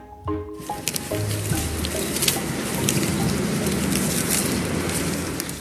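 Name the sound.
leaves rustling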